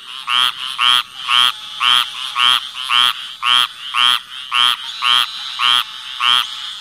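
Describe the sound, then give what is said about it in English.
A squirrel tree frog calls in a steady series of raspy, nasal bursts, about two per second, loud, with no other sounds around it. “The call of this frog is very much like the scolding sound that a squirrel makes when it sees a blue jay or is on the attack.”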